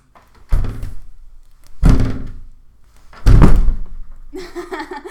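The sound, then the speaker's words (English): Three loud, heavy thuds strike a flimsy door about a second apart as it's forced, each booming impact ringing briefly, followed by a rougher rattling noise as it gives way. “You think a flimsy fucking door could keep me from you?”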